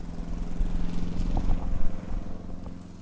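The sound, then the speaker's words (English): A lawn mower engine drones steadily as a man mows the grass to keep a cemetery in shape, a constant buzzing hum with slight fluctuations as it cuts grass, heard alone without any voices. “For now, that means mowing the grass.”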